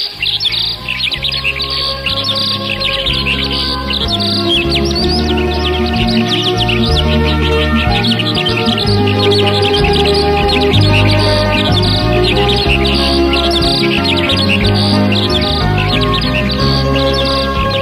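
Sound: birds chirping and singing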